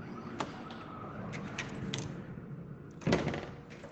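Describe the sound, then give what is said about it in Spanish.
Doors opening and closing, heard from a home patio: a few scattered clicks and knocks, then a louder thudding bang near the end, all over a steady low rumble of background noise with no talking. “También el de las puertas.”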